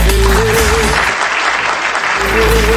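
Steady crowd applause for a DJ fills the whole stretch, a dense wash of clapping at a loud, even level, with a low hum and a brief sustained tone at the start and end.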